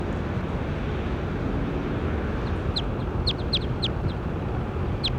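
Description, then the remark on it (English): A bird, numbered bird 20 in a bird-recording session, gives a quick series of short, high chirps in the second half, about seven sharp notes in uneven bursts, over a steady wash of loud background noise. “Start recording bird 20.”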